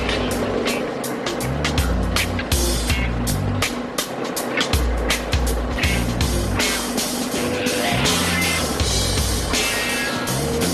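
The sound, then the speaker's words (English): A 1984 Pontiac Bonneville Brougham drives steadily 650 feet below the surface in a salt mine, its engine droning and shifting pitch under constant rattling and rough road noise, loud the whole time with no one talking. “This is quite a ride you got. Yeah, it's an 84 Pontiac Bonneville Brougham.”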